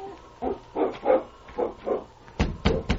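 A dog gives a string of short whining grunts, then three sharp, loud barks in quick succession, with no one talking.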